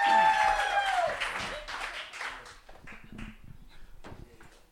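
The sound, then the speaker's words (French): An audience breaks into dense, steady applause for the first poet of an individual poetry final, from Montreuil 9-3, with a sharp whistle sliding downward at the start and a few scattered voices mixed in as the clapping slowly thins out. “On l'applaudit très, très, très, très, très, très fort.”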